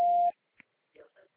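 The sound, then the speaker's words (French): An automated phone system sounds a single short, steady, mid-pitched beep lasting about a third of a second, the cue for the caller to state their pickup address and city, then a voice begins speaking quietly. “Prononcez distinctement après le bip sonore votre adresse de prise en charge en précisant la ville.”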